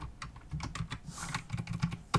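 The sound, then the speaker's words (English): Fast, clattering typing on a mechanical keyboard, loud, with a steady burst of sharp clicky keystrokes and no voices. “Yeah, I'll get to hear my deafening keyboard, which I'm definitely going to edit out or have edited out because mechanical keyboards is not a good look for a podcast.”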